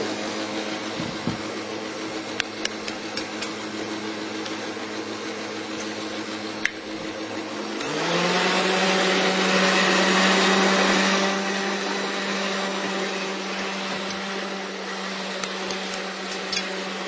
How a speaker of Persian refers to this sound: دونه دونه تخم مرغ رو اضافه میکنید، یه تخم مرغ اضافه میکنیم حدود 30 ثانیه هم خورد، بعد تخم مرغ بعدی رو اضافه میکنیم که 4 تا تخم مرغ داشتیم.